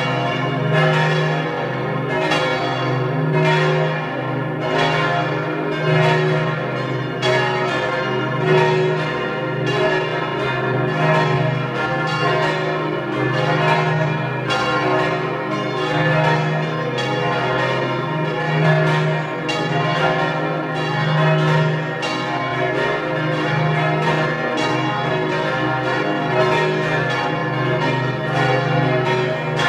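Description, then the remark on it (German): The noon bells of the collegiate church of Vircht in Tyrol peal steadily for the whole stretch, several bells striking in a dense, overlapping rhythm with a rich, humming resonance beneath. Loud, with no voices. “Sie hören die Glocken der Stiftskirche von Vircht in Tirol.”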